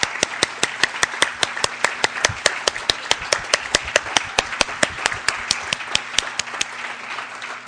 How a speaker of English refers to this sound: Hello, everyone. How about another round of our applause for Jane and David?